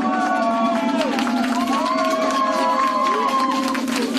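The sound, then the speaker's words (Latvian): Several hundred supporters cheer and shout continuously at Minsk railway station, Belarus, welcoming Ales Bialiatski after his early release from prison, voices overlapping in a steady roar with rising whoops and scattered clapping, loud throughout. “Šorīt tika saņemta negaidīta ziņa, ka Aļazis Beļackis no ieslodzījuma ir atbrīvots priekšlaicīgi, un jau pēcpusdienā vairāk simti viņa atbalstītāju sagaidīja viņu Minskas dzelzceļa stacijā.”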